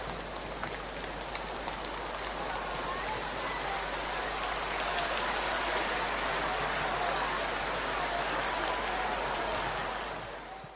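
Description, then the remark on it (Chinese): Sustained, enthusiastic applause from a large crowd welcoming Lu Junhong, a dense, steady crackle of many hands clapping at once for about ten seconds before it tapers off at the end. No voices are heard. “让我们用最热烈的掌声恭请尊敬的卢军宏台长。”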